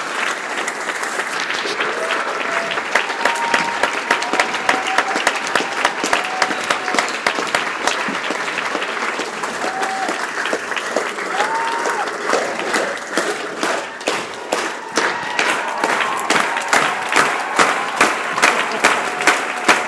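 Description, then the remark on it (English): A theatre audience applauds at the curtain call at the end of an Afghan production of The Comedy of Errors. Dense, sustained clapping from a large crowd stays loud and steady for the whole stretch, with a few faint cheers and voices mixed in. “This is the applause at the end of the Afghan The Comedy of Errors.”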